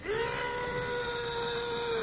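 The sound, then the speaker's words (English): A loud, muffled scream into hands cupped over the mouth, done as a vocal warm-up before going to the studio, one steady high-pitched note that rises briefly at the start and then holds for about two seconds with no talking. “Before I get to the studio, before I ride to the studio each day, I like cup my hands over my mouth, and then I scream as loud as I can.”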